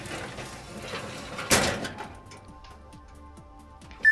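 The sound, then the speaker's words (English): A drawer slides open with a quick, fairly loud scraping whoosh, followed by faint mechanical ticks and clicks fading out, and a short knock near the end. “Just a drawer that pulls out.”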